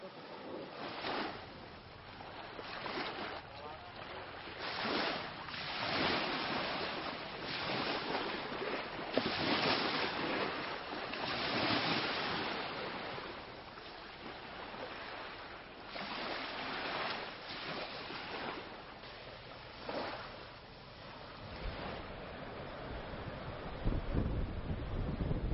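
A boat pushes through choppy sea, with waves splashing and surging in repeated bursts over a constant rush of water and wind buffeting the microphone.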